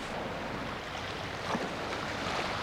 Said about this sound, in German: Nein, ich höre nichts. Nur die Wellen, die an die Klippen klatschen.